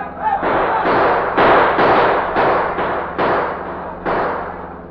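gunfire

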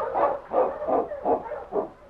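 dog barking impatiently

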